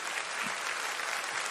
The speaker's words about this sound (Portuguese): Uma salva de palmas